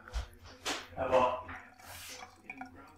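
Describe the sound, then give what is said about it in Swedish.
Water splashes and trickles into a glass in a few short bursts, with faint clinks and dripping sounds in between. “Och nu hämtar du ett glas vatten till dig själv.”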